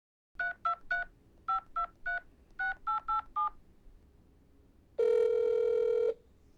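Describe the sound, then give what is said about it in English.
A woman in a car pulled over to the roadside dials her father's phone number: ten short touch-tone beeps in quick clusters of three, three and four, followed by a single loud, steady electronic tone lasting about a second. “She pulled the car over, called her dad, and hit record.”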